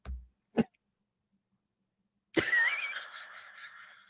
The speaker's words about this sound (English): I'm sorry, you started coughing, but I finished my sentence.